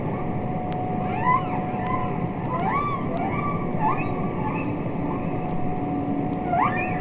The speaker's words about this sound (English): Which was itself given voice by the recordings of humpback whale songs made by Roger Payne.